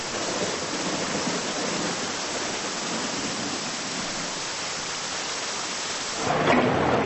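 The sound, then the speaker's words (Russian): Heavy rain from a thunderstorm lashes down steadily on grass, a dense, continuous hiss of countless drops, swelling slightly louder near the end, with no voices. “А теперь крупнее, по траве хлещет дождь.”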